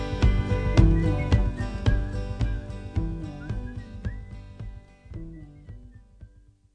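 A whistled melody rides over full band accompaniment with steady beats, then the whole refrain gradually fades out, growing quieter until it nearly disappears at the end.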